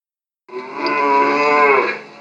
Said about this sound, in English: A cow.